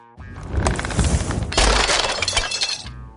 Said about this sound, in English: He blew the house down.